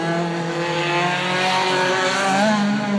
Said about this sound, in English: Drivers are getting some practice laps in here at Foxhall Stadium this afternoon.